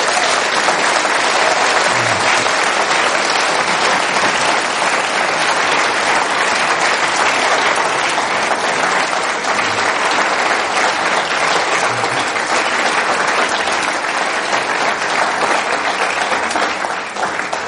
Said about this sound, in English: I think it's only right that we just give a big round of applause